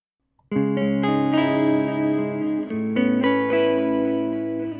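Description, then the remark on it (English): Strummed electric guitar chords, with left and right guitar channels run into a bus through a 100% wet echo delay in Logic, ring out with each new chord blending into repeating trails, steady and fairly loud, with no voices. “So if you were to add a very simple delay onto that, we'll just use the echo delay in Logic.”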